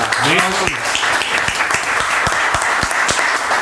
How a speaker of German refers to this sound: Oh. Applaus an euch.